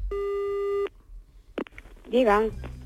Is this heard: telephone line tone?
yes